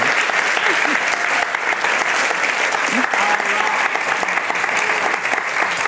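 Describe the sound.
Sustained applause from a large audience at an event with author Rashma Saujani, a dense steady patter of many hands clapping at full volume for several seconds, with faint cheers and voices mixed in.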